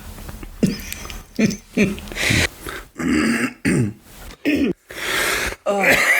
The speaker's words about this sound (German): Du musst hier schon wieder rumhusten. Das schneide ich raus.